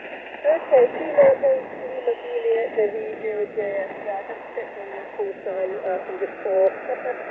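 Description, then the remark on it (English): Interference from other radio stations muddles a narrow, tinny shortwave channel during an amateur radio contact, with garbled overlapping voices and faint steady tones running continuously underneath for the whole stretch. “I got some QRM stepping on top of you now, but thanks very much, and safe sailing, and we'll look forward to the next time.”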